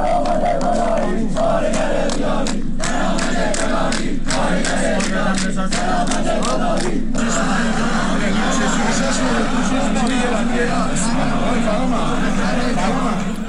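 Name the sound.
protest crowd chanting slogans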